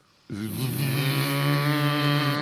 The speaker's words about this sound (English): It was foggy. Somewhere he heard the sound of a foghorn.